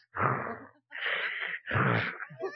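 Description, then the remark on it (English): A parrot, while awake, imitates human snoring with three raspy, drawn-out breathy snorts separated by short pauses, followed by a softer trailing rasp. The sounds are fairly loud and harsh, with no talking. “So now the parrot mimics snoring.”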